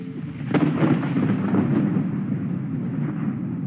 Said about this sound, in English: One 1,000, two 1,000, three. When we're young, we're taught to count the pauses between thunder rumbles as a way to distract us from fear.